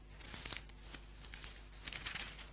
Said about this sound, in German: Blättern wir ein bisschen zurück.